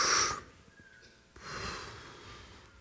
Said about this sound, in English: Don't blow in the face of the person next to you. Because I don't know how your breath smells.